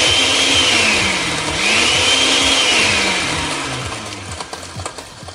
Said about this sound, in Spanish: En la licuadora vamos a moler los chiles chipotles adobados.